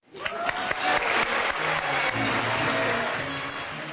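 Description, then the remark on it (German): Sustained applause at the Magnesia Litera book awards for main prize winner Jan Balaban, an author who died at 49: a dense patter of many hands clapping at a steady loud level for several seconds, with no voices over it. “Großer Applaus für einen Autor, der mit 49 Jahren gestorben ist.”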